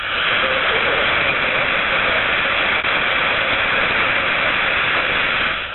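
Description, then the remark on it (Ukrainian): A steady, loud wash of jammed shortwave radio static on the 49-metre band after 19:00, heard by a listener in Mogilev trying to receive Radio Svoboda, with a harsh, roaring jamming hiss, unbroken for several seconds apart from one faint click midway, with no clear voice coming through. “вон на нижней частоте хвали 49 метров после 19 годин. Крыху прорвался сигнал.”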